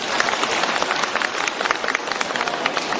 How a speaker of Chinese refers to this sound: 让我们掌声再次感谢卢台长